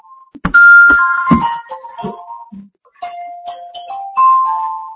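A mobile phone rings with a bright electronic melody: a few sharp struck notes at first, then a run of sustained beeping tones stepping up and down, fairly loud with no one talking.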